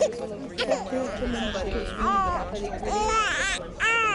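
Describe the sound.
A baby cries in short, rising and falling wails at a clinic, where it has been brought for a check-up, over a murmur of adult voices and room noise; the cries grow stronger in the second half.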